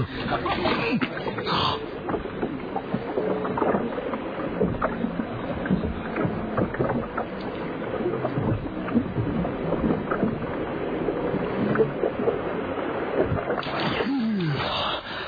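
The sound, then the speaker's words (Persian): A small boat moves across the water at Peljani Island, a continuous churning, splashing rumble with a steady engine-like drone and wind buffeting the microphone throughout. “برو زیر آب قایقه.”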